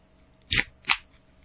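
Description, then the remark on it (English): A can of Coca-Cola being handled: two short, crisp metallic bursts about a third of a second apart, bright and crackly, against a quiet background with no talking. “It's a can of Coca-Cola, morons.”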